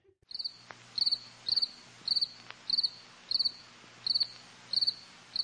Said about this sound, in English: I'm going to insert some cricket sounds in there, yeah.